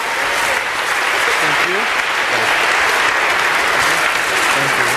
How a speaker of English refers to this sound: So maybe if we could humor them, if only because I'm feeling a little awkward now, a little round of applause for these guys here.